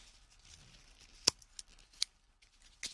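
Scissors snip a hole in a plastic bag in a few sharp clicks spaced unevenly, with faint crinkling of the bag between cuts and no voices.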